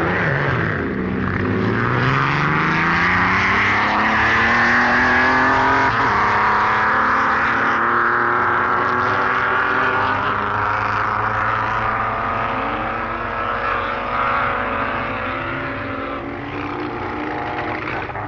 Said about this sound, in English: Dudley Gagan's pre-war 1.5-litre ERA single-seater racing car, an example of one of the most successful British machines ever built, and almost drowned the fine exhaust note of Eckersley's vintage Type 37 Bugatti